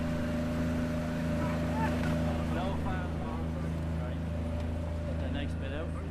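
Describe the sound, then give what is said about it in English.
A boat's motor drones steadily as a boat is put into the water at the start of an open-water swimming race, a low, even hum running the whole time, while people talk indistinctly over it. “Getting a boat down.”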